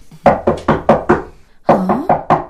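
Two bursts of sharp knocks on an old woman's door, four raps each in a quick steady rhythm, with a short pause between the groups. The knocks are loud, with no talking.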